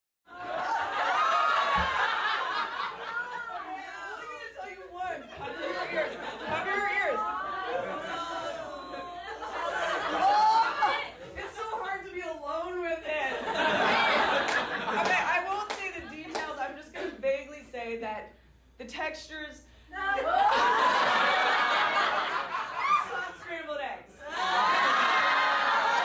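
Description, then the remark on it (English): A stand-up comedy audience shouts "no" in loud, overlapping bursts of protest, mixed with laughter and chatter, as the comedian describes a TV show about people with extreme skin problems. The crowd swells and fades several times. “I should play that clip here, actually, of people screaming no when I was describing the show.”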